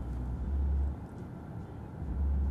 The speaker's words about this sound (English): I'm right next to a car that has one of those glorious sound systems in it. Although it sounds like his speakers are blown.